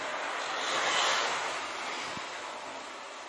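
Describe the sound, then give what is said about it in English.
A steady, hissing roar of an airplane on its landing approach in strong wind, swelling slightly early on and then easing, with no one talking. “I had shown one, but here's another one where a plane is fighting against crosswinds before landing.”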